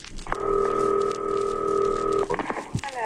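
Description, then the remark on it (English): A steady electronic telephone tone holds for about two seconds, clear and fairly loud, then gives way to a few short clicks and bursts of line noise as a long-distance call to a caterer in Chicago is dialed. “Now, we're going to call Chicago tonight.”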